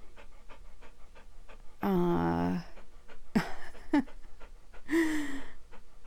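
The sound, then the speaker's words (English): A dog named Trigger, an adopted pound puppy, pants steadily in quick rhythmic breaths, broken by a couple of short, tonal whining or huffing vocal bursts. “So he's a pound puppy, huh?”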